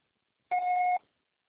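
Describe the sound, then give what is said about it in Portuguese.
A single steady electronic voicemail beep after a greeting message, about half a second long, with a clear mid-high pitch and a fainter higher overtone, starting abruptly and cutting off cleanly, alone in silence. “Por favor, deixe seu recado após o sinal.”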